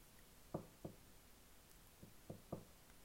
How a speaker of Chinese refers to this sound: 谁敲门呢？